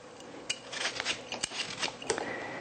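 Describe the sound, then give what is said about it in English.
A knife cuts pumpkin into finer pieces with crunchy, scraping strokes and a few sharp clicks of the blade on a board, coming at an irregular pace. Fairly quiet, with no talking. “And I'll cut this into finer pieces here, so it's easier for me to peel.”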